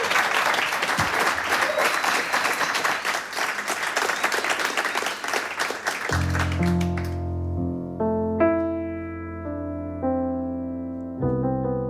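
A loud, dense round of clapping from a studio audience in Studio 1 welcoming a musician to play live on stage lasts about six seconds, then gives way to sustained music with deep bass and ringing tonal notes.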